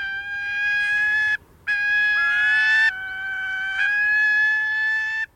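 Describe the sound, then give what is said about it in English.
Gyrfalcon calls, from the largest of all falcons: long, steady, piercing wails held almost continuously, broken by one brief pause, with overlapping cries thickening the sound midway. No one speaks. “Gyrfalcons are majestic birds.”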